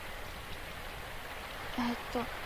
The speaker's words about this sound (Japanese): 次の日曜日、外は午後からみぞれ混じりの雨だ。